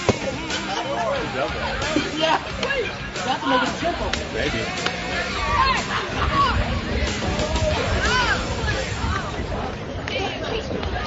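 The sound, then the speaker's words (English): A steady hubbub of crowd chatter at a ballpark, picked up by a crowd mic, many overlapping voices murmuring at a constant moderate level, with occasional sharp knocks and thumps rising out of the babble. “I've got the crowd mic turned up, see if we get an explanation, maybe from somebody that's a little closer, able to listen what they're discussing.”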